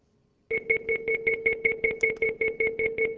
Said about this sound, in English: So those tones are very far apart. Everybody here can hear probably two tones, a high tone and a low tone. That's not the point. The point is they are perceived as a single source coming, that is coming from a single source.